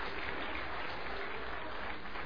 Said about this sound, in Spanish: El más alto de todos, el más alto. Fuerte aplauso para allá también, el más alto de todos.